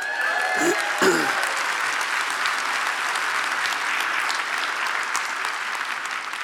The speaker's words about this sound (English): So I'm going to announce these two guys. You feel free, because you know them, so you feel free to clap, hoot, holler, do the wave in the spirit, whatever you want to do.